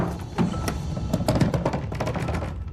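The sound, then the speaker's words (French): Someone, growing more and more angry, pounds on a locked bedroom door, trying to force it: a rapid, irregular series of heavy thuds that keeps going with no voices over it. “s'est mise à tambouriner dessus, de plus en plus en colère.”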